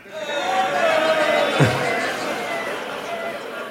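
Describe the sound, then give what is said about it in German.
An audience noisily imitates construction site sounds all at once, some like concrete mixers, a dense babble of vocal buzzing, whirring and rumbling with a sharp thud partway through, sustained across the whole stretch. “also soll ich die Geräusche, die wir brauchen vom Publikum, weil neben dem Haus ist eine Baustelle, deswegen brauchen wir Baustellengeräusche von euch.”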